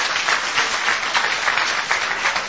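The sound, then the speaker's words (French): Steady applause from an audience for a group of performers, a dense wash of many hands clapping at once, sustained throughout without voices standing out. “On les applaudit.”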